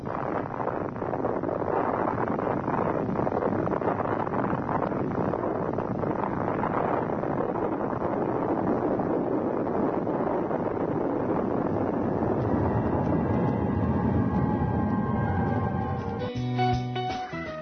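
A massive atomic bomb explosion rolls on as a continuous, heavy roar and rumble, loud and steady for well over ten seconds, with a muffled, dated recording quality and no voices.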